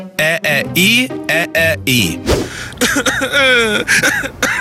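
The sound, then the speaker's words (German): A string of voiced, moaning coughs from a man, with a harsh burst near the middle, then sliding into a drawn-out, whiny whimper at the end. “Und Typ 4 ist der wehleidige Mann, der sich selbst so leid tut, dass jeder Huster so in ein kurzes Jammern übergeht.”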